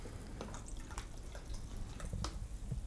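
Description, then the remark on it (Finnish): Someone mixes themselves a lantrinki, a mixed drink: liquid trickles and drips into a glass with a few soft splashy bursts over a steady low hiss, fairly quiet and with no one talking. “Mä teen silti itselleni sekoituksen, lantringin.”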